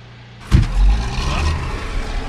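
At a stone quarry in Vermont, a sharp thud like a vehicle door shutting, then a truck engine rumbles low and steady as the truck heads down toward the visitor center, with a rough hiss riding over the drone. No one speaks.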